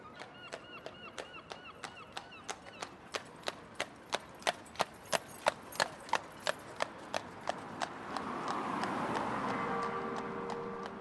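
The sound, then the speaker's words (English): Steady clip-clop of a horse's hooves on Lewis Road in Killarney on a summer morning, a regular rhythm of sharp knocks growing louder, then giving way to a broader rumble of passing traffic. “In the mornings, especially in the summertime, I would hear the sound of the horse's hooves on Lewis Road going down, and that to me is a very much part of the sound of Killarney.”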